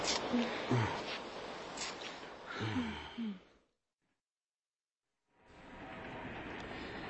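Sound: train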